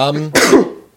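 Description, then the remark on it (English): A single sneeze: a short voiced, rising intake gives way to a loud, breathy burst that quickly fades out, with nothing else following. “Bless you.”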